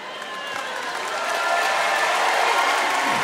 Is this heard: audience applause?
yes